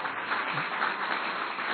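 An audience claps together in a steady, continuous wash of applause, moderately loud rather than thunderous, with no pauses and no voices over it.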